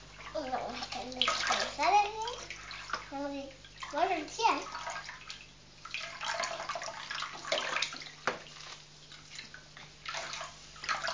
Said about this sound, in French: Ça coule, hein? Ah, pour couler, ça coule, hein? Ça roule du robinet, oui. Ça continue, c'est un drôle de robinet.